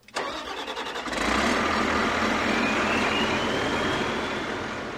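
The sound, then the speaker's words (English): A huge logging machine's engine, on a wooded slope of Elk Mountain in Carbon County, cranks with a rapid clatter, then catches and roars into a loud, steady rumble for several seconds with no voices. The machine, with a mechanical arm wielding a claw and circular saw, clear-cuts lodgepole pines and fir trees. “On a densely wooded slope of Elk Mountain in Carbon County, a huge logging machine sets about clear-cutting a stand of lodgepole pines and fir trees.”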